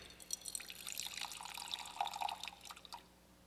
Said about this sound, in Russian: Вот посмотрите, я проиллюстрирую это таким вот образом. Вот есть сосуд пустой, и вот есть у меня вода. И я вот наливаю ее.